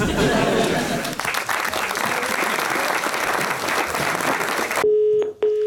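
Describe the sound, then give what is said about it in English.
Several seconds of loud, dense applause-like crowd noise, then a few short electronic telephone keypad dialing beeps, one after another, sound clearly at the very end. “I've got Julia Roberts on speed dial anyway.”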